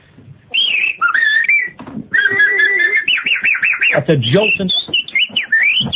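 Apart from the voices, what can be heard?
human whistling a tune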